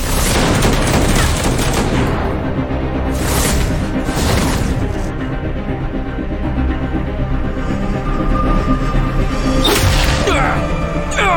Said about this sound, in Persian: آلبرت افتاده زمین، بهش شلیک کنید.